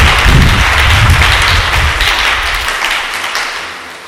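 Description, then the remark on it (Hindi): An audience breaks into loud, sustained applause for Jesus, a dense wash of many hands clapping at once that holds steady and then slowly tapers off toward the end. “यीशु के लिए जरा जोरदार तालियां दें।”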